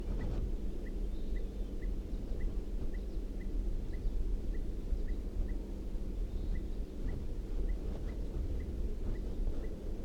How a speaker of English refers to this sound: And I think I hear a crossbill. I think I did hear a crossbill calling. I do hear a type 2 crossbill calling from down the hill.